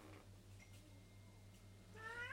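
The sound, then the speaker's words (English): Jasper, a ginger cat, lets out a single drawn-out meow near the end, fairly loud, after a quiet stretch with a steady low electrical hum in the background. “Let's go and listen to Jasper the cat.”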